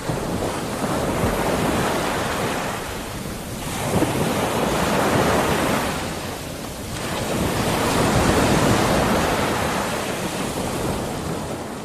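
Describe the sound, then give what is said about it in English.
Sea waves roll in and break on the shore at Batroun, at the Colonel spot known for surfing and windsurfing, in steady surges. Each swell builds to a broad roar before easing back, with some wind buffeting the microphone and no voices. “We're in the middle of Batroun, next to the sea.”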